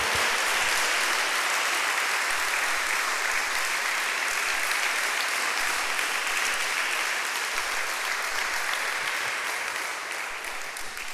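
A church audience applauds the Lord steadily for about ten seconds, a dense wash of many hands clapping at once, loud and sustained, tapering slightly at the end with no talking over it.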